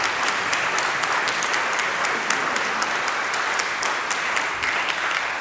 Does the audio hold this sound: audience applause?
yes